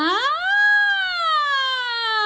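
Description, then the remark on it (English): A single voice does a vocal siren exercise, swooping quickly upward and then sliding slowly back down in one sustained, fairly loud tone, with no other sounds. “Same thing with sirens. You can do that here as well.”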